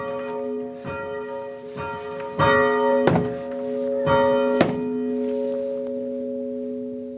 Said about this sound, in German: Einer, der läutet das letzte Mal die Glocke von Hang. Der letzte Glöckner von Bern, der Thierry Ehrenberg.